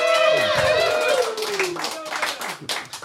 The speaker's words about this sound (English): When you agree with my decision on who wins, I want you to cheer. Give that a shot right now.